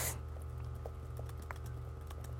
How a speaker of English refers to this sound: Sorry if you can hear me typing.